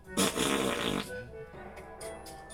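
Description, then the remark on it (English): A loud, buzzing armpit fart noise lasting under a second, made by pressing a hand against the arm, followed by quieter rustling and faint background murmurs. “Fart noise!”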